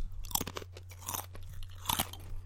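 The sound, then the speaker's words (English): Crisp, repeated crunching of thin Wheat Thin wheat crackers being chewed, a run of sharp brittle snaps with two louder bursts, over a low steady hum and no talking. “It has, like, a crispier crunch.”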